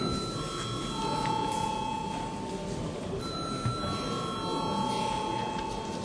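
signal or alarm, parliament chamber bell ringing

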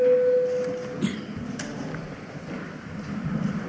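signal or alarm, parliament voting bell signal

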